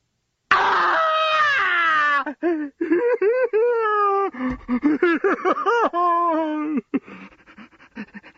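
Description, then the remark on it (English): A man playing Scrooge lets out a loud, drawn-out scream that falls in pitch, then falls aside a bed and breaks into a run of choked, wavering sobs and whimpers, unaccompanied. “The corpse is, of course, Scrooge, who screams. He falls aside the bed, weeping.”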